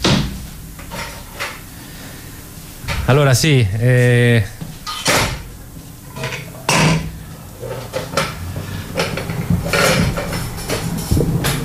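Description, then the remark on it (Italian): A microphone is being handled and swapped for another, handheld one after a problem with the first: a series of loud clunks, bumps and rubbing thuds at irregular intervals, with a person speaking briefly in between. “Abbiamo un problema sul microfono. Qui ce n'è uno solo, se no ce n'è uno volante. Prova quest'altro, scusa, poi lo rimettiamo a posto nella pausa.”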